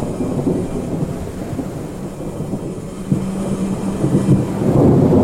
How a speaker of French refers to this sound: Tout se mit à changer. Les arbres ployaient sous le vent. Il faisait plus frais. Enfin, comme si quelque chose s'était brisé, l'orage éclata.